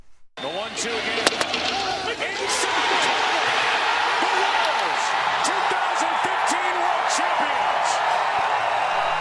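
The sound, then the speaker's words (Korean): A loud stadium crowd roars in celebration on a Sunday night as the Kansas City Royals win the World Series 7-2 in 12 innings in Game 5 at the New York Mets' ballpark, a dense continuous wall of cheering and shouting with sharp claps and thumps, swelling after the first couple of seconds and staying intense. “일요일 밤 캔자스리가 우승하는 순간 함성 소리 네.”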